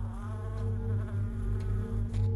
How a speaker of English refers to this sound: At the window, a tiny insect fidgets against the glass. A glass traps the wasp.